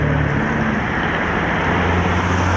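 New Belarus-made trolleybuses and Akia buses rumble past in Dushanbe, Tajikistan, at a handover ceremony, in a steady wash of road noise, with a low engine hum running underneath for the whole moment. It stays loud and continuous, with no voices.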